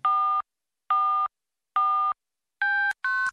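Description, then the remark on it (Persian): Five short electronic telephone dialing tones, for calling the BBC Persian radio message line, each a steady multi-pitched beep of about a third of a second, evenly spaced at first, with the last two higher and closer together. No voices. “یا به شماره پیامگیری ما زنگ بزنید و با صدای خودتون پیامتون رو بذارید.”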